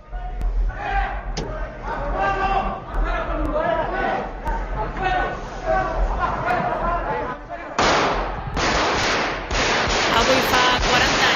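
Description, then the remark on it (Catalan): Archival recording of the 23-F coup attempt in Spain's Congress of Deputies: loud, agitated shouting from Civil Guard Lieutenant Colonel Antonio Tejero, then a rapid burst of repeated gunshots breaks out and continues to the end, harsh on an old, rough recording. “Trets i crits del tinent coronel de la Guàrdia Civil, Antonio Tejero, va ser el cop d'estat del 23F al Congrés dels Diputats.”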